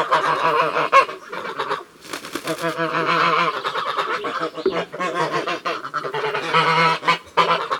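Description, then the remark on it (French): A flock of grey geese cackle and honk continuously, their harsh overlapping calls loud, with brief pauses between bursts of chatter. “Comme elles font caca-caca, on dit qu'elles cacardent.”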